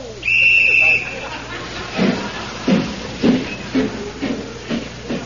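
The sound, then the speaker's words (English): A steam train gives a short, shrill whistle, then chugs slowly up the side of a mountain in steady, evenly spaced puffs, moderately loud, with a breathy hiss between the beats. “And so, as the train chugs slowly up the side of the mountain, we find in the engine the driver and fireman hard at work.”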